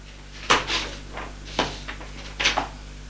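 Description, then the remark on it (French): A door is opened onto an English-style sitting room with a short series of wooden clunks and latch clicks, three distinct knocks spaced about a second apart against a faint steady hum, with no talking. “Il ouvre une porte, c'est un salon anglais.”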